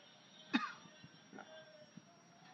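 One sharp, close cough rings out, then a few softer throat-clearing noises follow over the next couple of seconds against a quiet, hissy background.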